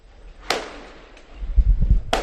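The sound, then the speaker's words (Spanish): Two sharp firecracker bangs of San Juan night in Barcelona, set off to celebrate the Spanish national team's win, burst out over a low, rumbling street background, the second coming about a second and a half after the first, each with a brief crackling decay. “Son petardos de San Juan en Barcelona que están celebrando el triunfo de la selección española.”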